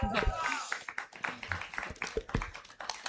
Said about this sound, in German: Ich lade euch einmal ein für einen herzlichen Applaus, weil es nicht einfach ist, vor so einem Publikum über dieses Thema zu sprechen.